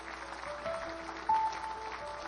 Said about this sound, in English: Would you give the Lord a good clap offering? Would you do that?